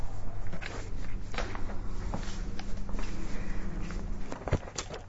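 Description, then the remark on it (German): Faint, distant footsteps tap irregularly along a hard corridor floor, set against a steady low hum, with no voices present. “Das sind nicht mal meine Schritte. Das sind Schritte ganz von fern. Diese Schritte enden an diesem Gang.”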